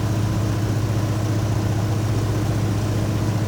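A stationary propeller plane's engine idles steadily at rest, a constant low droning hum with no change in pitch or loudness and no voices.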